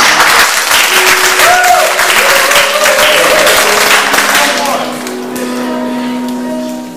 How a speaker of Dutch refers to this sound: En mag ik daar toch een mild applaus voor al? Want dat geeft hem extra energie.